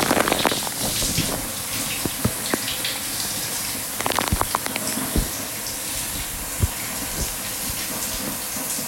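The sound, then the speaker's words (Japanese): Steady rush of shower water running continuously while someone showers, with scattered splashes and sharp clicks and knocks breaking through the spray, moderately loud, no one speaking. “シャワーの水飲まされてる。”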